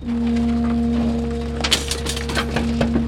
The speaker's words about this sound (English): That sound right there is a couch being eaten by a garbage truck, in case you were curious.